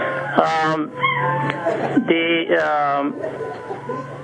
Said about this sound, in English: Now, there are like dogs in the other room I'm sitting, so you might be hearing dogs crying or something.